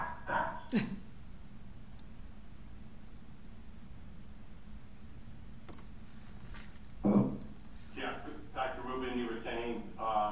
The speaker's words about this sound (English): Yes, I muted myself because my dogs.